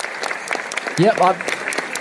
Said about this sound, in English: Round of applause